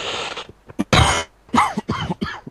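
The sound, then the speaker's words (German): A burst of coughing heard over a poor Skype connection: one forceful cough followed by a quick series of three or four rougher, throaty coughs, with no talking. “Man hat es Husten, man hat es Husten kaum gehört, so schlecht ist momentan die Übertragung von Skype.”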